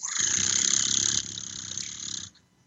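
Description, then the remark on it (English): A voice imitating a cat's purr to demonstrate a very low frequency of around 25 hertz: a low, rattling purr rumbles steadily for about two seconds over a breathy hiss, softening slightly midway before stopping abruptly. “It's also the frequency of the kitty cat purr. It's like this.”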